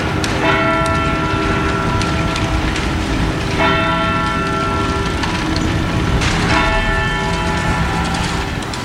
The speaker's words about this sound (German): Das sind Glockenschläge von einer ganz besonderen Uhr. Der Zeitglocke, mitten in der Berner Altstadt.